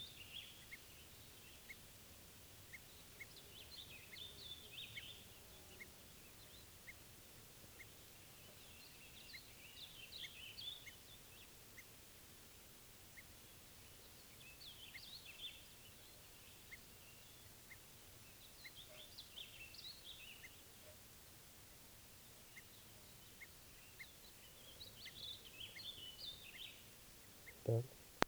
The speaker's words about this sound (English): echoing alarm calls here for 387.